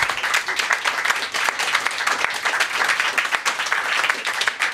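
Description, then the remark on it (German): A crowd bursts into sustained applause, dense overlapping claps continuing steadily for several seconds at a fairly loud level, with no one speaking over it. “für dich mal guten Abend und deinen Applaus.”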